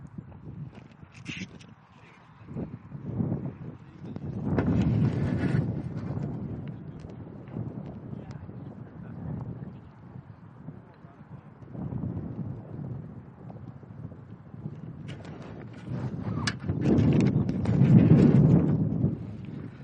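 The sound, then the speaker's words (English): Gusty wind buffets a microphone outdoors, a rough low rumble that swells into louder blasts a few times, with scattered thumps and crackles throughout and no clear voices. “It's windy.”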